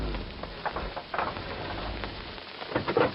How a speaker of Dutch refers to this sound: Toen de oude zatkiel enige dagen later het hoofd uit de kuil stak om van de regen te genieten